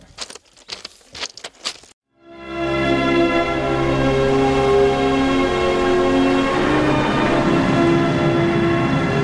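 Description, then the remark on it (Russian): A few sharp metallic clanks, then a loud train roars past on the Novokuznetsk–Tashtagol railway at kilometre 517, its steady rumble layered with droning, horn-like tones that hold for several seconds. “Железная дорога Новокузнец-Таштагол, 517 километр.”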